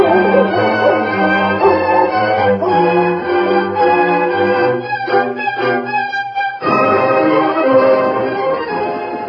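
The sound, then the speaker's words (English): A leashed hound barks and yelps excitedly in a steady, repeated run of loud calls, with eager whining bays mixed in, following a scent it was given from a pair of gloves. “And give the hound a whiff and see if he can get a scent and follow it.”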